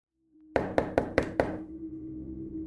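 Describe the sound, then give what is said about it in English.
Five quick, evenly spaced, loud knocks on a front door, leaving a low hum lingering after the last rap. “The cracking at the front door startled the older gentleman.”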